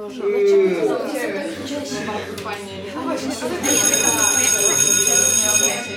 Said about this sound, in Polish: Cisza! Słyszeliście dzwonek? Dzień dobry, zaczynamy lekcję.